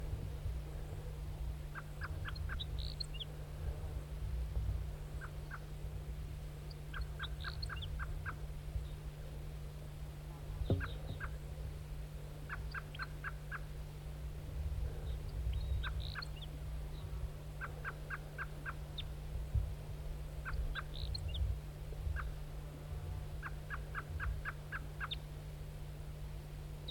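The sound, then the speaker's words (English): A lone male wild bird, all red, calls repeatedly, short rattling gobble-like bursts every few seconds, over a steady low hum of background noise, with no talking. “Wild bird. Wild bird. Here it comes, wild bird.”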